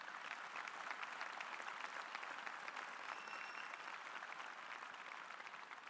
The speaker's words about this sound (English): Go ahead, let's give our senior adults a little round of applause.